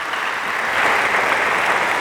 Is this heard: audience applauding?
yes